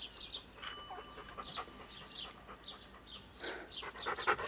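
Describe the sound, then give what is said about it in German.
A dog pants steadily, a quick run of breathy, hissing huffs repeating about twice a second, moderately loud, with no voices over it. “Du kannst es wohl nicht erwarten, dein Herrchen wiederzusehen.”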